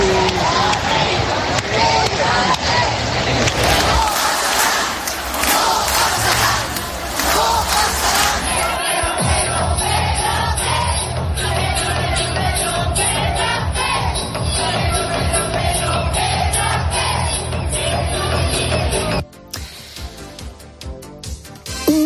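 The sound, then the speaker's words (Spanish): A large crowd gathered in front of a party's headquarters chants the name "Pedro" over and over in a loud, rhythmic unison, with cheering and roaring swelling around the repeated chant and a brief dip near the end. “Y sí me imagino, y no es un punto exagerado decirlo, esto que hemos oído, Pedro, Pedro, Pedro, quédate, en otros lugares del mundo.”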